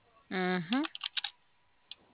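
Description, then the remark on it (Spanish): A short voiced sound, then a quick burst of about half a dozen fairly soft computer keyboard taps, followed by one last isolated keystroke after a pause. “Ya siguió el teclado.”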